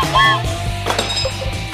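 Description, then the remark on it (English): Small hard sound-maker objects clatter and clink as they're thrown into a sound maker drawer, a quick cluster of bright metallic taps and ringing tones over a low steady hum. “Well, I like to just throw stuff right in the drawer.”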